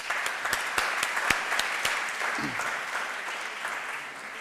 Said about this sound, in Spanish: Entonces, havent llegit aquest currículum, podem entendre doncs, quin és el seu background i abans que comenci la conferència crec que es mereix un aplaudiment.